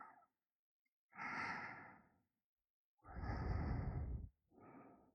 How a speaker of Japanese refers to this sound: 息遣い荒くなってきてる。